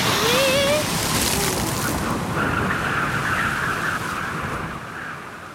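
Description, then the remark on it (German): A stormy sea roaring continuously in a violent storm just after leaving an island, with heavy, crashing waves growing ever higher and rushing water, loud, with a faint whistling wind rising early on before the surge eases slightly toward the end. “Kaum hatten sie die Insel hinter sich, setzte auch schon ein heftiger Sturm ein. Die Wellen wurden immer höher”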